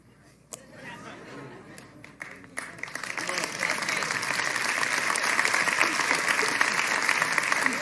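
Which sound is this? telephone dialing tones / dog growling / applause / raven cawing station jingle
applause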